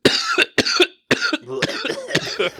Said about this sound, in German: Du sagst diesen Namen und kriegst eine Hustenanfall. Moment mal. Entschuldigung, Leute. Direkt, hast du dir einen Keks verschluckt?